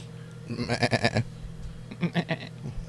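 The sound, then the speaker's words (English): Already-sheared sheep bleat twice, each call a wavering, quavering, nasal baa with rich harmonics. The first is longer and louder; the second, shorter call follows after a brief pause. No one speaks. “Them sheep's already been sheared.”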